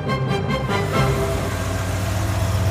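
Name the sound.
bus engine running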